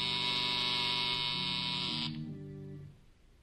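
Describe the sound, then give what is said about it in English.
A loud, harsh electric buzzer blares steadily for about two seconds in an office at night, at a desk with colored lights gleaming on and off, then cuts out, leaving a lower droning hum that fades away. “K-12 watches those lights intently some moments before a buzzer sounds.”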